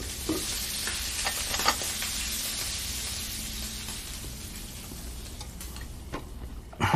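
Steady, loud sizzling of a tofu and bok choy stir-fry in a hot pan, with occasional clinks and scrapes of a utensil stirring the food; no one speaks.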